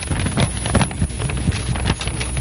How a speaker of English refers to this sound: I know you're asking yourself, now, what could that possibly be? Actually, what it is, it's two pieces of paper.